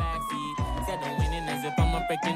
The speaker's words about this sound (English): yo, you hear the sirens, let's get it poppin', bro